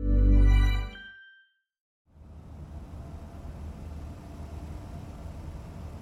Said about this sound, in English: I'm standing in an empty car park on a frigid mid-January evening.